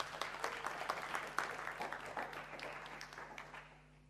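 A crowd applauds with dense, steady clapping that gradually thins and fades over about four seconds, with a low steady hum beneath.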